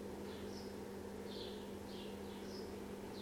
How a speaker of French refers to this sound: De l'autre côté, j'ai des oiseaux qui chantent. Il y a de la lumière, il y a des couleurs.